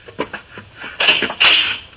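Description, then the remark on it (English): A door is opened: a few light clicks and rattles of the handle and latch, then two louder scraping bursts as it swings open. No one speaks. “Earthman, you will rise from your seat and open that door.”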